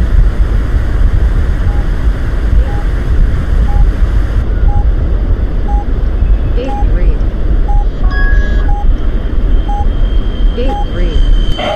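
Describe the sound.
A loud, steady roar of airplane engines as heard from inside the cabin, with a faint beep repeating about once per second and muffled voices briefly surfacing through the drone.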